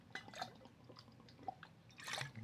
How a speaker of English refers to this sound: Let me just get a swig of my bong water.